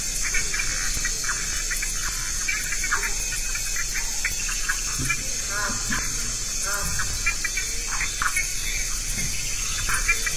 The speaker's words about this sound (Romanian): Undeva departe, se aud păsările nopții amazoniene, cu un cântec ciudat